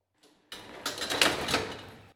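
An elevator door slides shut with a steady mechanical whirr and rattle that swells over about a second and a half, then stops abruptly. No one speaks.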